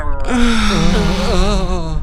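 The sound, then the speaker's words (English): A voice imitates the creaking, groaning metal of an elevator shaft in a shaking station, with one loud, sustained low moan lasting nearly two seconds, its pitch wavering and bending slowly throughout. “And the whole station is shaking, and you're hearing, like, a lot of creaking and, not moaning noises, but that sound of metal sort of like...”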